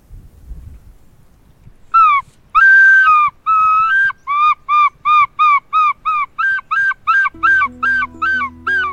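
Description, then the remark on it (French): A person imitates bird calls: a loud series of about fifteen short, whistling chirps in a quick steady rhythm, with a low hum joining near the end. “Je fais encore plus de chants d'oiseaux qu'avant.”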